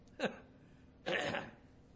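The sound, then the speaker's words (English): Someone clears their throat to imitate a Hebrew guttural sound while pronouncing a Hebrew word: a short sharp rasp, then a longer, harsher guttural scrape about a second later, with quiet between and no talking. “But you pronounce E-H, and then you clear your throat and say retz.”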